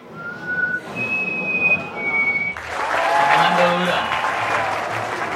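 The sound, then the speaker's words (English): At a call-imitation competition at the 9th annual Colombia Bird Fair, a person whistles an imitation of a chestnut-breasted wren's call: three clear, sustained notes, the first lower and the next two higher. Loud applause from a crowd then breaks out and continues. “There were workshops, lectures, even a competition to imitate the call of a chestnut-breasted wren.”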